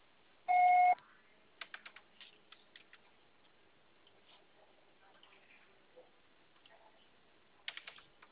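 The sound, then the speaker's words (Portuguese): A single steady electronic beep from a phone voicemail service, signalling the start of message recording, loud and held for about half a second, followed by a run of soft irregular clicks like typing on a keyboard, with another brief burst of clicks near the end. “Sua sessão será tarifada após o sinal.”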